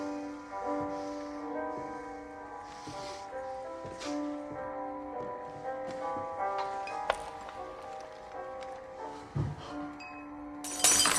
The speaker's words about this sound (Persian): اوه، از دستم افتاد، برش دار. خودت برش دار. تا یه پیش خدمتی، اگه لیوان از دستم بیفته باید برش داری. زود برش دار ببینم.